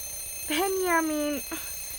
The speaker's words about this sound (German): oh, der Wecker klingelt. Stell ihn doch ab. So ein Krach mitten in der Nacht.